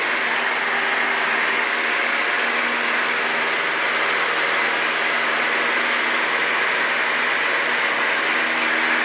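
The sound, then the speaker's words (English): A small airplane engine drones loudly and steadily, a harsh, constant roar with a low humming tone running underneath, unbroken for the whole stretch and with no voices. “Ooh, noisy airplane.”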